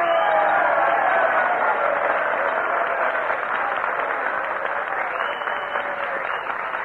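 A crowd breaks into sustained applause to encourage Jack Benny to come up and play a violin solo: dense overlapping clapping that stays loud and steady for several seconds with a faint murmur of voices mixed in.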